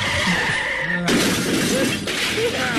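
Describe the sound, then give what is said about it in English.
A car skids with a rising tire screech, then slams into a light pole on Hillsboro with a loud crash and a burst of shattering glass. Debris keeps clattering and a second loud smash follows. “He got into the car, and he crashed into a light pole on Hillsboro.”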